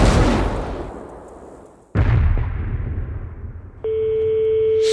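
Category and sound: impact, cannon fire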